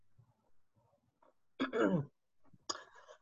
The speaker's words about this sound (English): I'm sorry, I started coughing just as you called on me.